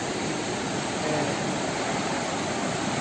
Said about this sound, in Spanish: Para que nos comenten, ahora el agua bajó pues muy fuerte, venía el río fuerte.